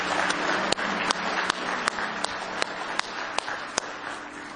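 A crowd applauds steadily in a hand clap of praise to God, with dense overlapping hand claps, punctuated by sharper, evenly spaced louder claps roughly every half second, as if someone keeps a beat.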